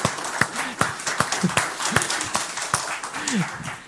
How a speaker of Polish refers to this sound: Zapraszam gwiazdę wczorajszego wieczoru, od razu oklaski